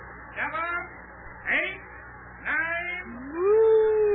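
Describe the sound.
A person imitates a cow's moo: three short rising, wavering calls about a second apart, then a longer, steadier low moo that holds until the end.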